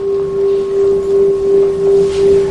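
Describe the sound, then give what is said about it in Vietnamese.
A deep temple bell rings on with a steady low hum and a faint higher overtone, its loudness swelling and fading in slow, regular pulses. No strike is heard. The bell is rung as the signal to stand up at the third bow of a ceremony. “Mà cái thứ ba này không nhập nữa mà thỉnh lên, để cho ta biết đứng lên và đây là lễ thứ ba rồi, không cần nhập chuông nữa.”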